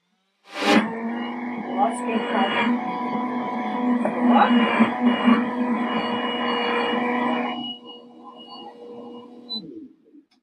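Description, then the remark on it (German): A blender motor roars to life abruptly and runs loud and steady with a strong harmonic whine, grinding and fluctuating slightly, then cuts off and spins down after about seven seconds. “So, ich mache jetzt erstmal die Hälfte nur kurz, damit der Mixer. Achtung, jetzt wird's laut, ja.”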